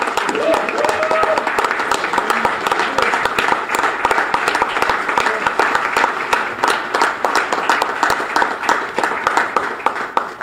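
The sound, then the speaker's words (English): A large crowd gives a standing ovation to a baseball coach, applauding steadily and loudly with dense overlapping claps for about ten seconds, with a murmur of voices and cheers mixed underneath. “Can we give him applause? Can we give him a standing ovation?”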